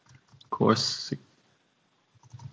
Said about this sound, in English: I'm just typing into Google to see whether you come up.